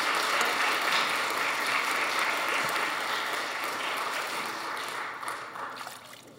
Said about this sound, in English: Thank you, kids. Can you give a round of applause for our kids who came in to see the baptism as well?